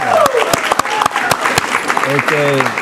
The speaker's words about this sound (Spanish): Claro, un aplauso.